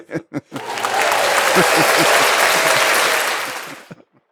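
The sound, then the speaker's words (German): Rain patters steadily on a roof window, a dense, even hiss of drops lasting a few seconds while people talk over it, then stops. “Vielleicht hört man das gerade, wie der Regen auf das Dachfenster passt.”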